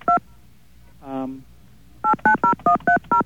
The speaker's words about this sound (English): Using the keypad, please enter the telephone number, including area code, of the payphone. Oops, I did it backwards.